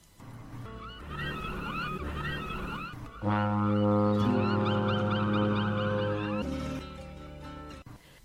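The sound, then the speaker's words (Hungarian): A big ship weighing anchor blows its horn: one loud, steady blast lasting about three seconds, then cuts off. Shorter honking, bird-like calls come before it and continue faintly in the background. “Ősz partján vesztegelt, horgonyát szedi a nagy hajó. Kürtje felbúg, hangja köddé porlik a dermedt fák alatt.”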